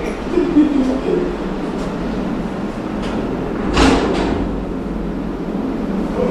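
A heavy metal jail cell door, closed by a guard, slides and shuts with a single loud clank partway through, set against a steady low rumble and faint background murmur.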